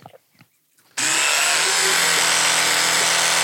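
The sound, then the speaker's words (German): After a brief quiet moment, a loud electric toothbrush suddenly starts buzzing and keeps going steadily as someone brushes their teeth with a little water in the mouth, its tone wavering slightly as the mouth opens and closes around it. “wenn man so die Zähne putzt und dabei so den Mund auf und zu macht.”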